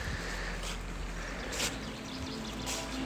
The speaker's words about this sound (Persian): صدای خشخش برگا زیر پام با صدای رودخونه، ترکیبش خیلی دوست دارم.